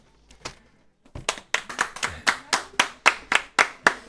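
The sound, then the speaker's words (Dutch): Applause from two listeners clapping at a radio show, a steady run of about a dozen sharp, bright claps at a lively even pace, preceded by a few faint scattered taps. “Je krijgt applaus van twee hele kritische luisteraars.”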